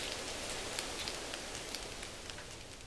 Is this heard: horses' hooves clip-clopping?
no